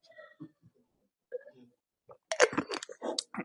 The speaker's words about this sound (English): And I really need to take a sip because I'm thirsty. Grape juice, by the way.